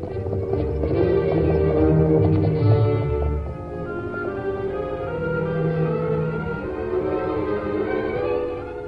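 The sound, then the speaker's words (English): Horses' hooves trot along a back trail up to the hills in a steady clip-clop rhythm as two riders go on the horses Silver and Scout, partly blended under a full, sustained orchestral music bed that swells and dips throughout. “The masked man and the Indian rode up a back trail to the hills.”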